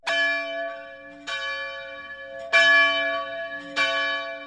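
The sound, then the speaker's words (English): A bell rings four times at a steady, unhurried pace, each loud clang leaving a long shimmering tail that overlaps the next strike. No voices are heard. “It's a bell.”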